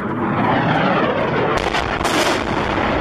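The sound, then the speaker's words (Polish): A loud, continuous roar of military fighter jets fills the air in Syria, with heavy blasts of bombs dropped from the planes swelling up near the end, dense with no pauses. “Bomby zrzucane z samolotów to w Syrii codzienność. Myśliwce syryjskiej armii często bombardują tereny zajęte przez rebeliantów, ale pod gruzami giną nie tylko zbuntowani przeciwko władzy partyzanci, ale przede wszystkim cywile.”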